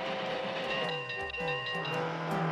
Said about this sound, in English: The race cars pass the train tracks.